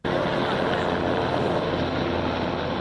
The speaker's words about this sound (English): Helicopters dumping water over the town of Tarifa in southern Spain, trying to put out the second major fire there in a week.